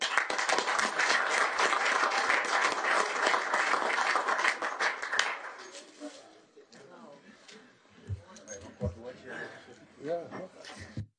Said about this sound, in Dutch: Dank en nogmaals applaus.